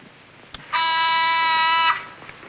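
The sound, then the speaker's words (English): An intercom phone buzzer in a large house, set off by pressing a random button, sounds one steady, harsh electronic buzz lasting just over a second, fairly loud and rich in bright harmonics, over faint background noise with no talking. “He finds an intercom phone.”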